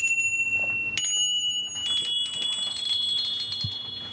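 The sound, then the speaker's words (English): A schooner's bell and a small bell from a goat's collar ring one after another, each strike sharp, leaving bright metallic tones hanging and overlapping with no one speaking. “And he loved bells, so there's this is a schooner's bell. And then this one was one from one of his goats, on this goat's collar, and then there's other bells.”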